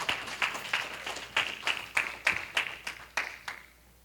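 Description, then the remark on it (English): In Dallas, a group gives a hand clap in the name of Jesus, clapping together in a steady, even rhythm, about a dozen sharp, bright claps at roughly three per second, moderately loud and tapering off at the end. No one speaks. “Give him a mighty hand clap in the name of Jesus.”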